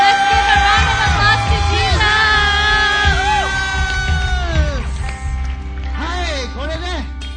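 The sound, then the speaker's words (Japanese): A church audience applauds and cheers for Jesus, steady loud clapping filling the whole stretch while whoops and high yelling voices rise and fall over it. “手をイエス様に拍手を。”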